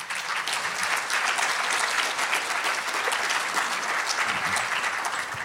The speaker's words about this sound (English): If you guys could just clap for them for like 10 seconds, that would be awesome.